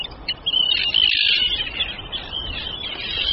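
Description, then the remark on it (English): A dense chorus of high, harsh calls from many Arctic terns in their breeding colony overlaps continuously, with raspy shrieks peaking loudly in the middle before settling into a steady, noisy din. “An eider duck has chosen to nest in the centre of the tern colony, hardly a tranquil place to raise your young.”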